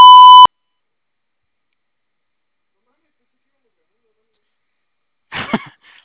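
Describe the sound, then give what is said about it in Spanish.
A single loud, steady electronic voicemail recording beep sounds for about half a second, followed by several seconds of silence and then a brief cough-like burst. “Grabe su mensaje. Marque la tecla gato cuando termine.”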